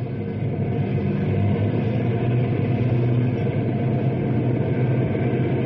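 The engines of two heavy prison trucks rumble in a steady, loud drone with a deep low-end roar, holding constant throughout with no voices.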